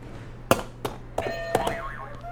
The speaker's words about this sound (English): All right, why don't you hit a buzzer for me?